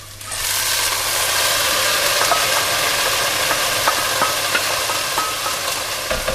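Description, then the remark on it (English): Steady, dense sizzling of nicely browned, caramelising onions frying in hot oil as they are coated in the oil, a continuous hissy crackle with occasional sharper pops and faint stirring scrapes, holding at an even loudness with no voices. “And now that the onions are nice and brown”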